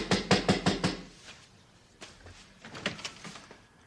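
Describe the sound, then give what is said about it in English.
A woman knocks on a door: five quick, firm knocks in a steady rhythm, followed by a pause and then a few softer, scattered knocks. No one speaks. “When she knocks on the door, you open it, and that'll give me a chance to look at her.”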